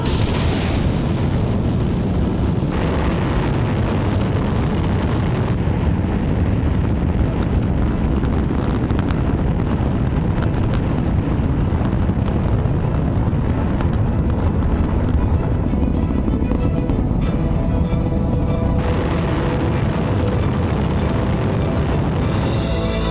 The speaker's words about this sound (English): It all begins with launch aboard a Delta IV Heavy rocket.